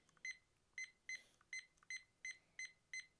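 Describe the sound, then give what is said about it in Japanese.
A kitchen timer gives seven short, sharp electronic beeps at a steady, slightly uneven pace as buttons are pressed to set it for 20 minutes. “20分にちょっと音るせえ。”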